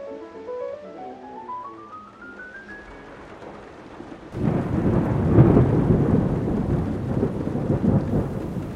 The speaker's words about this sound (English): It's raining again and growing dark